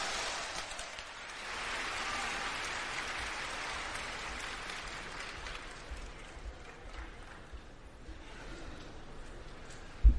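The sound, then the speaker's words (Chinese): Sustained audience applause as Guo Degang and Yu Qian are welcomed out fills the whole stretch, a dense wash of many hands clapping at once, steady and moderately loud with no talking over it, tapering slightly toward the end. “好，掌声有请。”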